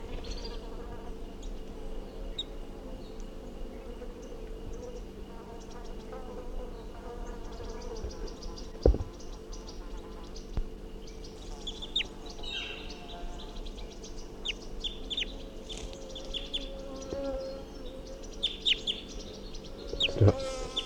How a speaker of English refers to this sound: So recording the wild bird, 8:47, and it's giving alarm calls.